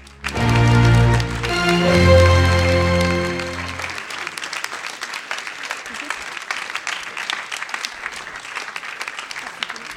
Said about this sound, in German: Wir haben Punkte. Einen großen Applaus schon mal für den Poeten und nicht für die Wertung.